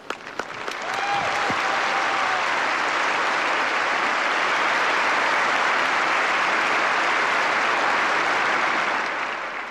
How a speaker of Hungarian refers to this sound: Kedves hallgatóink, a nagy taps vihar köszöntötte a mai napon is a Szentatyát, aki most levonul a püspökökhöz.